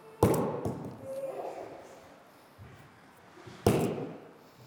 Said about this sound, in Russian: Когда мы добились того, что мячи не улетают вперед, а падают близко, можно поймать второй мяч. Первый просто бросаем, второй бросаем и ловим.